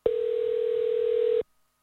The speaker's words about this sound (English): All right, let's dial him right now. It is calling as we speak.